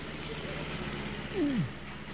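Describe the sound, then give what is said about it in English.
Lorry engines rumble steadily at a low, droning pitch as the trucks drive along after five weeks of travel, with a brief descending whine rising out of the drone near the end. “5 weeks of travel saw the lorries well on their way.”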